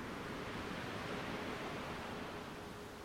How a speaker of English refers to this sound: Perfectly comfortable and toasty, with just the waves in your ears and not a soul in sight.